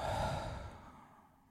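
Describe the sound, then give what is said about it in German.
A single full exhale through the mouth, breathy and sigh-like, starting strong and gradually trailing off over about a second and a half, done lying down as part of a 4-7-8 breathing exercise, with the tongue tip resting on the palate behind the upper front teeth. No talking. “Ihr legt euch ganz entspannt hin und schließt die Augen, legt die Zungenspitze ganz entspannt an den oberen Gaumen hinter die Schneidezähne und atmet einmal komplett die Luft aus dem Mund aus.”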